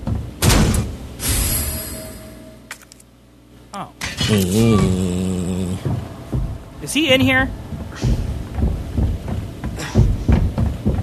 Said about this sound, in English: That sounded like a door, right? See, I'm freaking out. So yeah, Resident Evil might be affecting me a tiny bit.